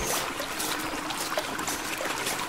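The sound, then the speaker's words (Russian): River water flows steadily with a continuous rushing, bubbling texture and bright trickling splashes on top, even in loudness throughout, with no voices. “Вот мы и пришли к реке.”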